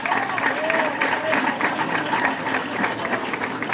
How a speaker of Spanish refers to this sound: Si pueden aplaudir el trabajo de los compañeros, se los agradecería.